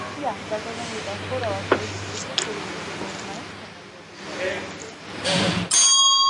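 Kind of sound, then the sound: signal or alarm, loud bell ringing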